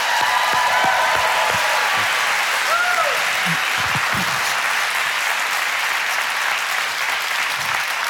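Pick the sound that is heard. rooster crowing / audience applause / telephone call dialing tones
audience applause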